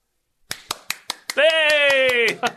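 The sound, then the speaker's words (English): A brisk run of hand claps, sharp and evenly spaced, continues while a voice lets out a long, loud shout over them before a couple more claps finish it off. “You said, I'm applauding, and you're not applauding.”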